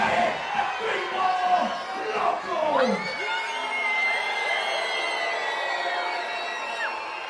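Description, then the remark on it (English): A large, predominantly Latino lucha libre arena crowd roars with shouts and whoops, jeering the wrestler El Gringo Loco as he throws out tortillas, many voices overlapping in a loud, continuous din; a few sharp yells rise above it before settling into a sustained murmur of jeers. “Entering the arena in stars and stripes spandex, he taunts the predominantly Latino crowd by throwing out tortillas, only to have them thrown back at him.”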